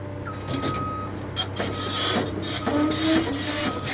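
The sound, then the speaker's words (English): A monstrous tractor-like pile driver grinds and rumbles as it bores thousands of steel poles into the soft earth of a field in West Fresno County, California, with a steady low engine drone, scraping metallic bursts and a few faint whining tones. “This huge field in West Fresno County used to be full of tomatoes, but on this day, a monstrous tractor-like machine called a pile driver is planting a different kind of crop, boring thousands of steel poles straight into the soft earth”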